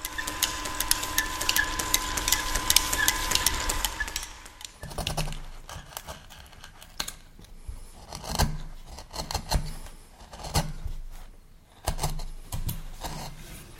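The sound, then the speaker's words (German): An ancient belt-driven drill boring holes in wood while a stringed instrument is being made hums and whines steadily for about four seconds, then cuts out, leaving a run of irregular wooden knocks and clatter. No one speaks. “Der Michael Ronheimer bohrt mit einer uralten Bohrmaschine mit Keilriemen Löcher ins Holz.”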